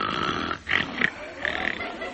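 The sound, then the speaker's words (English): Loud, rough snoring from a man who has fallen asleep, with a couple of harsh snorts in quick succession, then a longer rattling breath, fairly prominent with no talking. “He's fallen asleep.”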